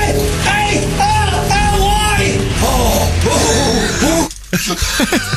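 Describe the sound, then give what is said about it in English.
David Van Day lets out a loud, exaggerated comedy-style scream, long and wavering in pitch, then breaks off briefly before a few more strained yelps. “What kind of scream is that? It's like a comedy scream, isn't it?”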